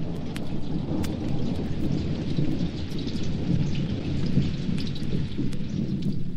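Heavy rain with big, heavy drops pours down steadily in a true southern thunderstorm, with a deep, continuous low rumble of thunder underneath, plus scattered sharp drips and splashes on surfaces. No voices.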